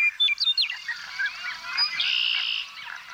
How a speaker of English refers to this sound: Blackbirds and white-throated sparrows are abundant in the reeds surrounding this body of water. And if you listen closely, you'll hear the unusual pumping sound of the American bittern, as recorded by Jean Rocher.